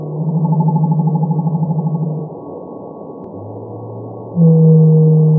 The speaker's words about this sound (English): Blue whales off the California coast make calls that sped up 10 times sound like...